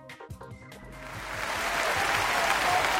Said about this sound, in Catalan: Doncs aquest aplaudiment que sempre s'endú el semàfor verd del Ràdio Weekend per a l'organització de Literàrum i la Fira del Llibre Groc,